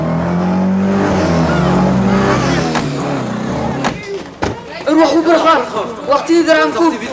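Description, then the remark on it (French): Engines of three pickup trucks roar and rumble for several seconds as they pull up in front of a hangar just after nightfall, then cut away as voices break in with loud, hurried talk over faint background noise. “Un peu après la tombée de la nuit, nous avons entendu le vrombissement des moteurs. Trois pick-up se sont arrêtés devant le hangar.”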